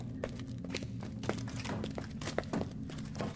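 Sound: someone knocking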